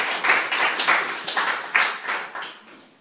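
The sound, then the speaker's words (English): An audience applauds demonstration participants as they go to sit down, dense, steady applause, a crackling wash of many hands clapping together that swells in a few waves before gradually tapering off, with no voices over it. “Give a round of applause so they can sit down.”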